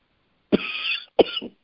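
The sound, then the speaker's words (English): Two sharp coughs from a person, the first followed by a longer raspy exhale, the second shorter and broken, with silence before and after. “So, excuse me for coughing.”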